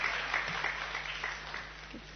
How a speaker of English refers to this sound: So let's applaud them.